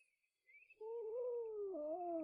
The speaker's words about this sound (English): This looks like an ordinary street, but a terrible event is happening. A cat has gotten stuck up a tree!